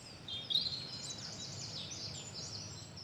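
Birds chirp and twitter steadily for a few seconds, heard through headphones, a busy layer of high, quick calls overlapping over a soft low background hum, fairly quiet, with no voices.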